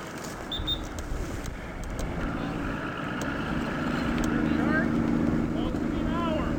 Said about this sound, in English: Police divers head out on their boat to continue the investigation of a man who went missing around midnight Sunday night.